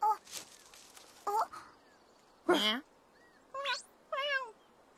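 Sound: black cat meowing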